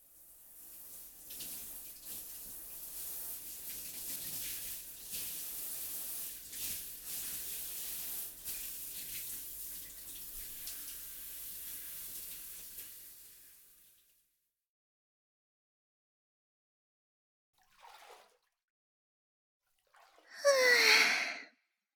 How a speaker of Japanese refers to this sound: さ、シャワーで流して、湯船に浸かろうか。